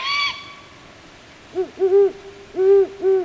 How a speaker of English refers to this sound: Hoots of the male great horned owl are lower in pitch than those of the female. Now, listen for the moment the female flies in to join the male.